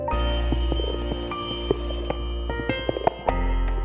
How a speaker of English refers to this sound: The phone rang. Something was wrong. Very wrong. That call was about my grandmother.